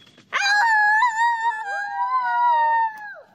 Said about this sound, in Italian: Noi quando siamo in posti distanti, se sentiamo che siamo vicini o comunque che vogliamo capire dove è l'altra persona, ululiamo, così che vediamo quanta distanza c'è tra di noi per ricongiungerci.